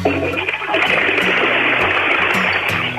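household object, toilet flushing

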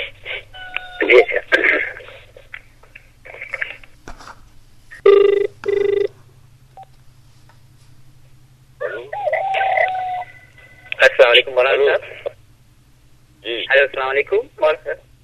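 signal or alarm, outgoing phone call ringing

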